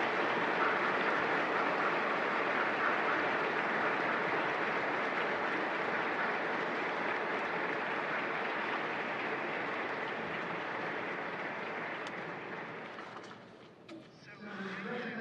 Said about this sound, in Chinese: 那么现在请大家和我一起鼓掌，感谢我们的东道主们。